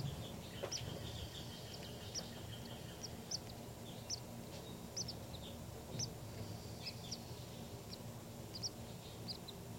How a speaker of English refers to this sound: These are the calls of the baby birds.